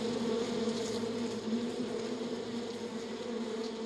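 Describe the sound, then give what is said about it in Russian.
A voice imitates a mosquito's buzzing with a steady, unbroken droning hum held fairly loud for the full few seconds, a faint hiss riding over it. “Так звенит вредный комар.”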